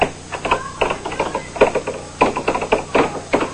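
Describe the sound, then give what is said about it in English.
A Plinko chip clatters down a board of pegs during a pricing game, a fast, irregular run of sharp plastic clicks and taps that stays fairly loud for several seconds with no talking. “Janice will give it back to her, and she gets to release that again”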